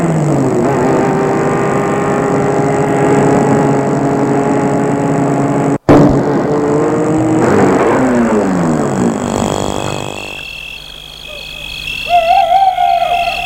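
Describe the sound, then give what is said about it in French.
A car engine hums steadily as the car drives along a deserted street in Bourg-la-Reine at night, its drone sliding in pitch as it slows and stops in front of a house, then cuts off, leaving a quieter stretch with faint tonal sounds. No one speaks. “Il va arrêter la voiture devant la maison.”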